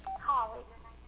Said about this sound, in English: That's never happened ever before in my life. Somebody trying to call me while I was preaching.